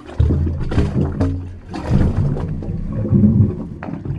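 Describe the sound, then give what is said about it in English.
Wave organ pipes give off low, hollow tones that swell and fade with the water, mixed with gurgling, sloshing surges and no voices. The sound grows louder the more water there is in the pipes. “high tide is an awesome time to come, because the more water there is in the pipes, the louder the sound is.”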